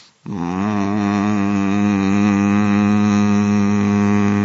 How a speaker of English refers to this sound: Let us produce a hum. It's fun to do this. Let me first do it.